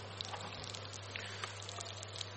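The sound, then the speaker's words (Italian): Steady hissing sizzle of the last ravioli frying in oil, dotted with small irregular pops and crackles, fairly quiet over a low constant hum, with no one talking. “Friggiamo anche l'ultimo.”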